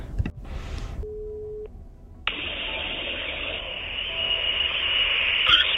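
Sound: telephone call ringing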